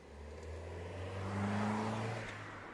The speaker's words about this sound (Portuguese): Ele abre a porta, senta-se no lugar do condutor e liga o carro. Finalmente, o João acelera pela rua.